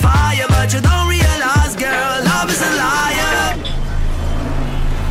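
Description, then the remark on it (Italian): A sung pop melody cuts off after a few seconds, giving way to a steady, fairly loud rumble of road traffic, with a low engine drone and a broad wash of noise. “Mamma mia, che traffico.”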